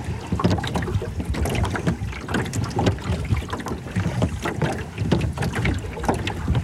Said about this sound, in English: Yeah, I mean, again, like to paint a picture, this is not a massive boat. No, right? It's a 14-foot clinker rowboat. Yeah, like a very wide canoe. Yeah, exactly.